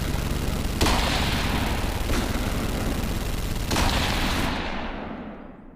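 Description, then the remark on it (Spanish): A long, unbroken burst of gunfire across a bay roars continuously for several seconds, dense and loud, with a few sharper cracks punching through before it trails off into an echoing fade. “Sin tiempo para reaccionar, un disparo surca la bahía. 2 segundos más tarde suena una ráfaga de disparos interminable.”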